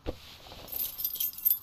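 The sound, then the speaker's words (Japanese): A bunch of keys to a school building jingles, a soft thump at the start and then a bright, metallic rattling that clinks on and off for a moment with no one speaking. “俺たまに、ここの掃除手伝うから、おじさんから鍵預かってんだよ。”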